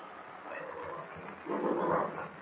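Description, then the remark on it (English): A huge, angry bear growls ferociously in a dark cave as it lumbers forward, a rough, continuous rumbling snarl that swells louder and harsher in its second half, with no other sounds around it. “The huge animal lumbers toward them, growling ferociously.”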